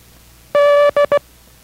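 The Morse code letter D ("Dog") beeped out in a steady mid-pitched tone: one long dash followed by two quick short dots, loud and clean with no voices.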